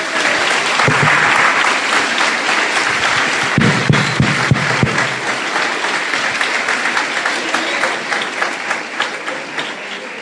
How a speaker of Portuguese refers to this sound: Vamos aplaudir as nossas queridas crianças.